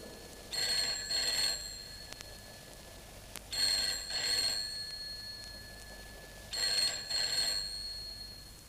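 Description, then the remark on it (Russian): A telephone rings around midnight in three repeated double bursts, each a bright, jangling trill with a short gap between pairs, clear against a quiet background with no voices. “Около полуночи зазвонил телефон.”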